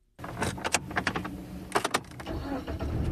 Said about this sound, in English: I hop in the car and drive north of the Washington Beltway in search of hot air from the real world.